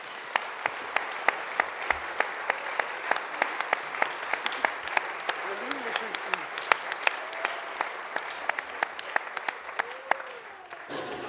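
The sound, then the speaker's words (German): Steady audience applause for a singer's performance for about eleven seconds, dense clapping with sharp individual claps standing out, a few faint voices and whoops mixed in before it thins at the end. “Einen herzlichen, großen Applaus”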